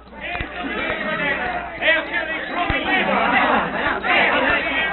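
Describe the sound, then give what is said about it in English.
A crowd of many angry natives shouting and clamoring over one another without pause, agitated and tangled together, surrounding a car on a road, with a few sharp knocks cutting through the din. “Rushing into the road, they discover the car and Barton surrounded by a crowd of angry natives.”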